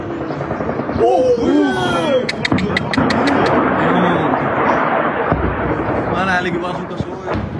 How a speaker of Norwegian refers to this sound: En video fra Moskva filmet fra en høyde som man får god oversikt viser russiske luftvernstyrker som skyter ned ukrainske droner. Og i bakgrunnen hører man folk reagere på det de ser.